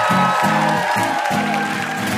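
Steady audience applause at a taping of Ask Me Another, a last round for guests Joseph Fink, Jeffrey Cranor and Cecil Baldwin, fills the whole clip, a dense wash of clapping hands at an even loudness with a faint crowd murmur underneath.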